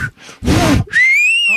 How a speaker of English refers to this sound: Holy crap, is that loud. I learned to do that when I was playing softball with the boys, and they didn't let me play. And you know, when I did that whistle, it came out of my mouth. They let me in.